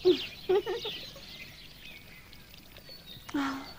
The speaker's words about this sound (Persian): میدونید چند تا پرنده رو درخت نشستن؟ نه نمیدونم، شاید هزار تا یا بیشتر. اینقدر زیاد؟